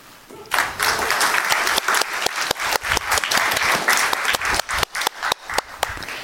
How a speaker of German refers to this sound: Super, vielen lieben Dank an die Gruppe Privacy Helper. Ich würde sagen, wir geben noch einen großen Applaus für die Gruppe, die gerade war, und für die nächste Gruppe, die kommt.